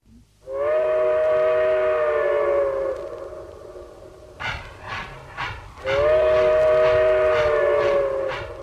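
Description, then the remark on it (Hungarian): A train whistle blows two long, loud, steady blasts, separated by a stretch of rumbling, chuffing train noise; no one speaks. “Éjszaka hozott a vonat Pestről Debrecenbe.”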